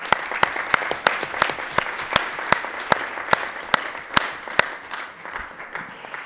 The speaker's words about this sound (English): we can maybe conclude this panel by a round of applause for our panelists if there is no more question on the panel.